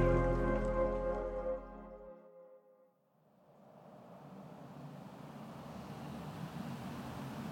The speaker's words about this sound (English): We're on the Williamsburg Bridge, stuck in traffic. Going nowhere fast. Here I am, sitting in a car